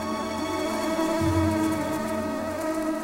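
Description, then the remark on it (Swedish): A steady, droning buzz of mosquitoes in a farmyard in Sweden in high summer, in one of the country's worst mosquito areas, constant for the whole stretch, a thin whining hum with no voices, swelling slightly in the middle. “På gården har de sällskap av Aftonbladet, lokalpressen, nyfikna bybor och så sällskap av mygg.”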